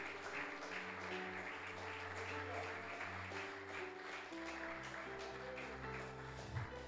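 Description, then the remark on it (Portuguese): A church audience at a morning service claps steadily for several seconds, a dense wash of hands over sustained keyboard chords that shift partway through, with no spoken words. “Eu gostaria de te convidar a dar uma salva de palmas para o Deus do impossível nesta manhã.”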